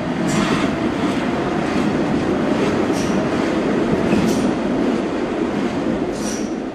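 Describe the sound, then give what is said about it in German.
A steady, loud rumble of a train travelling from Mostar to Sarajevo in Bosnia-Herzegovina, heard from inside a carriage, with continuous wheel noise and faint periodic high squeals or clicks over the droning roar. “Wir sitzen im Zug von Mostar nach Sarajevo gemeinsam mit dem Wiener Filmemacher Paul Rosti”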